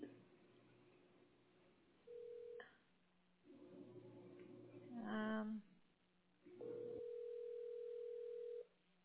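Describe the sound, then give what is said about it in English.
A phone call goes out from a cell phone over a faint, hissy line: a brief burst of dialing tones, then steady ringback tones buzzing at intervals, the last ring held for about two seconds. “Let me try it on my cell phone.”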